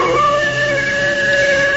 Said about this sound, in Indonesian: Oh, suara lolongan serigala.